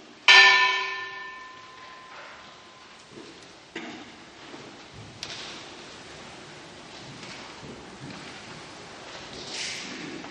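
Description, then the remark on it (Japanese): A church peace bell is struck once, loud, its rich ringing tone lingering and slowly fading into soft outdoor ambience with faint rustles. “平和の鐘の転生、広島長崎の被爆者が負わされた重荷を主が共に担ってくださり、世界で被爆者が二度と生み出されないようにと祈りつつ鐘をつきます。”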